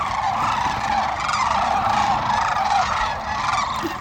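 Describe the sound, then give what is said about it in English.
A large flock of birds calls as it lifts off from its marsh area to go to the river, a dense, continuous chorus of overlapping honking cries that stays loud and steady throughout, with no talking. “You know, also, can you hear them just coming up now? Yeah, they're coming. They're just lifting off from their marshing area to go to the river right now.”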